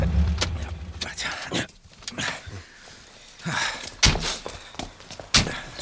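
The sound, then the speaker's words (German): A car idles low at first, then fabric rustles and a few footsteps shuffle as a man climbs out of the car, followed by two sharp thunks like a car door shutting. “Der Mann steigt aus.”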